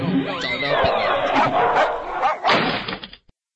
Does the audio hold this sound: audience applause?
no